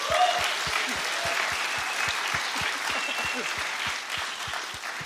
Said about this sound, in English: And I believe it is fitting for us to give the Lord Jesus a big round of applause.